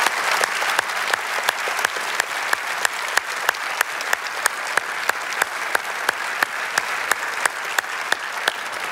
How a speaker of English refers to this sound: And so now, in all of our campuses, by a thundering applause, would you help me congratulate Pastor Doug and Northmont campus for 10 years.